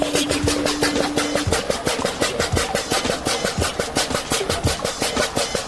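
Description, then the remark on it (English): A motorized water pump runs steadily while its flow rate is measured, churning out a loud, fast, even chugging pulse over a rough mechanical hum, with a faint steady tone in the first second or so. “The law dogs need to work out how quickly their pump can, well, pump.”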